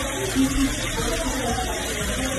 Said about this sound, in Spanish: La cantidad de agua es tal que en algunas casas, como la imagen a la que corresponde este sonido, ese agua se cuela por las paredes y los enchufes de las viviendas ante ríos y embalses que están al límite y suelos incapaces de absorber nada más.